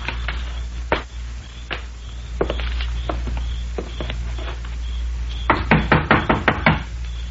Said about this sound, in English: Do we knock or just walk in? Well, let's try knocking. Come on up on the porch.